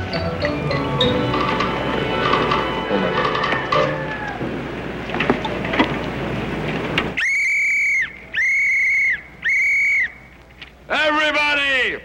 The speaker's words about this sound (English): Let me have my whistle. You gotta give them the whistle treatment.